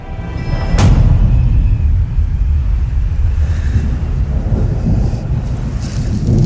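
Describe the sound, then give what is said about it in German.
Distant thunder rumbles low and continuous from an approaching storm, with a sharp crack near the start giving way to a long rolling growl. No voices. “In der Ferne zieht ein Gewitter auf.”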